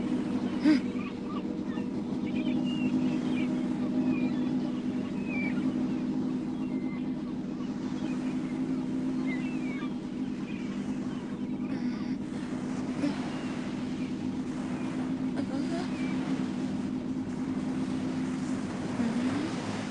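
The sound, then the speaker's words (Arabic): A rescue boat's engine drones steadily on the water for the whole stretch, a low continuous hum, with faint scattered bird calls chirping above it and no talking. “سأبرهن لهم أنني قارب إنقاذ حقيقي، سأعبر الممر الخطير ولن يخيفني شيء.”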